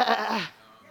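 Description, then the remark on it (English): A person's voice imitates a goat's bleat: one loud, wavering cry lasting about half a second, then dropping away to quiet background. “See, when God told him, you go and kill everything out there. Kill goats. And all of a sudden he hears the”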